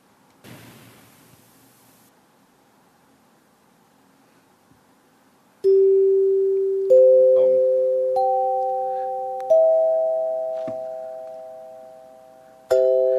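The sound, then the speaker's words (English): A set of hand-rung radio network chimes, played by Michael Shoshani with a four-finger ringing technique, rings out in separate, sustained tones after a soft burst of noise, the notes building into a ringing chord before a final strike, with no one talking. “That's how Michael Shoshani does that four-finger ringing.”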